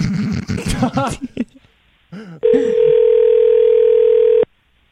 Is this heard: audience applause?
no